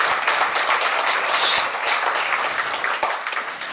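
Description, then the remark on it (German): Sustained audience applause for the artist who designed and set up the installation, a dense, steady wash of many hands clapping at an even loudness throughout, with a few sharper individual claps standing out and no one speaking. “Herzlichen Applaus nochmal für dich”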